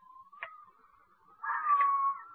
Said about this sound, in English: You hear that? The girl screaming.